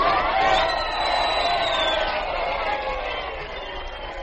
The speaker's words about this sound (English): Please, you must not cheer me. No, it is you who should be cheered.